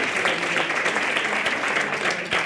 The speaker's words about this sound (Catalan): ara t'enviem un fort aplaudiment i molts petons per tu!